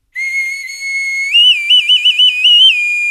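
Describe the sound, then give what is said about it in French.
A whistle from Cuba blown alone, starting on a steady tone, then jumping higher and warbling in a quick series of short trills before settling on a held note. “Mais on a peut-être celui qui vient de Cuba.”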